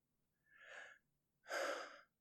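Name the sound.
gasping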